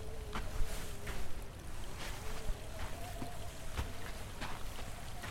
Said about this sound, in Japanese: 村の真ん中を流れる諏訪川、当時の新聞には事件の夜赤く染まった諏訪川と書かれていた。